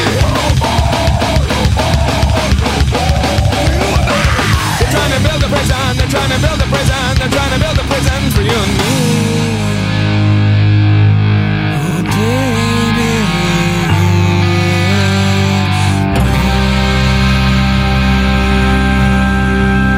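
A loud heavy rock song with dense distorted guitars, pounding drums through the first half, then shifting into a slower, sustained wall of droning guitar chords.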